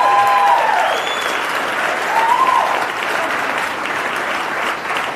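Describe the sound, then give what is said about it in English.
A crowd claps steadily throughout, dense and fairly loud, with a few whoops or cheers rising above the applause near the start and middle. “You didn't let me finish Fauci Unmasked with Michael Knowles, so there's no need to clap.”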